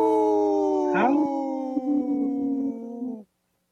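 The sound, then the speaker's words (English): Several people howl together like wolves in a kind of three-way harmony, holding a long, steady chorus of overlapping pitches with a brief upward swoop near the start, then cutting off abruptly after about three seconds. “Wow, that was a good howl. Kind of three-way harmony.”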